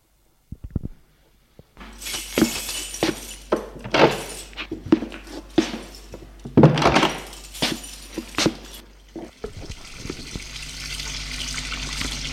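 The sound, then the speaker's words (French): A man's home door is unlatched and opened as he enters, with a few sharp clicks, knocks and scraping bumps, then a steady hissing noise settles in toward the end. “Puis, entre chez lui.”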